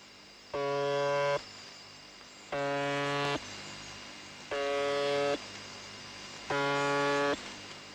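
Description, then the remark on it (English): A harsh, droning buzzer station on 4625 kilohertz sounds in four evenly spaced bursts of under a second each, rising out of a steady hiss of shortwave static that fills the gaps between them. “There are a few strange stations, I must admit, like the buzzer on 4625 kilohertz.”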